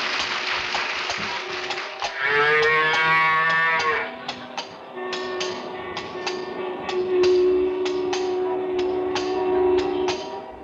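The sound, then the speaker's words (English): A cow being ridden slowly to the market, blocking traffic, lets out long, low, drawn-out moos, one after another, over a steady run of sharp clicking taps. No one speaks. “Can't you get this rump roast to move a little faster?”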